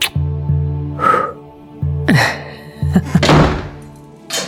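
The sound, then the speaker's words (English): A laboratory door thuds shut, followed by a few sharp clicks and a brief rattle as it is locked, all heard over a low steady hum. “After locking the door, Gaunt turned round to face Hawk and Fisher,”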